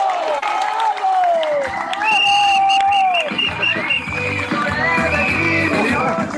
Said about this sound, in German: Nochmal einen Applaus für ihn.